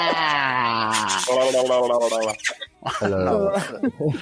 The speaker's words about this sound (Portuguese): Foi de língua. Foi um beijo de liquidificador, né? Segredos de liquidificador.